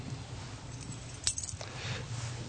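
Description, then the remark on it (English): A set of church keys jingles softly on a ring, including the north and south church key, a door key and the office key, with one sharper metallic clink midway through and faint rattling around it, quiet, with no one talking. “Okay, that's the north and south church key. That's the door straight back there. And this one is the office.”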